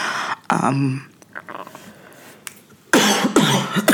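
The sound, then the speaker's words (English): A person with an itchy throat coughs and clears their throat in a few rough bursts, with short pauses between them and no speech. “clearly, my throat is a little itchy.”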